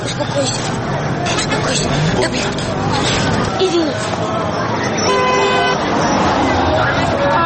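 A car horn sounds a sustained, steady blast near the end, rising over dense street traffic and a murmur of crowd chatter.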